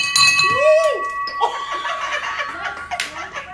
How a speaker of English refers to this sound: I broke the bell! You broke the bell. That's fantastic.